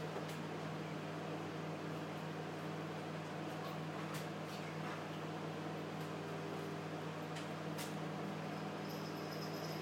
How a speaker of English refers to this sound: I'm not going to say much while that's on because otherwise it's all you're here is the microwave, not me.